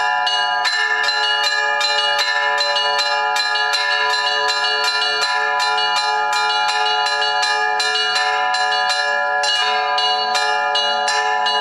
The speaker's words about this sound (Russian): И вот еще, Саша, ты звонил в колокол. Мне казалось, что это звонят сердца вот всех.